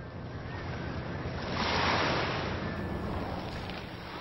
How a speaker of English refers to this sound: Waves are crashing against Front Beach in Unalaska,